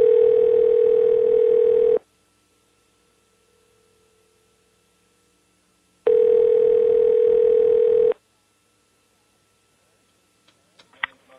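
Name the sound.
telephone dial tone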